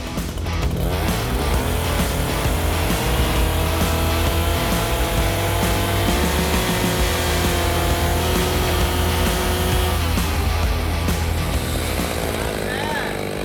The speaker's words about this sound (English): basically a 3-inch planer on the edge of a chainsaw that spins really fast and strips off the bark